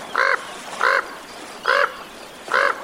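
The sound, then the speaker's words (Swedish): A common raven croaks four times in a steady, evenly spaced series, each call a short, hoarse, resonant note, loud against a quiet background. “Ja, inte helt olikt, så här låter den nämligen.”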